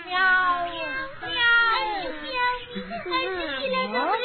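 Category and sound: animal, cat meowing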